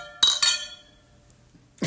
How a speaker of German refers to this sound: Wollen wir mal kurz anstoßen, bitte? Auch das. Prost.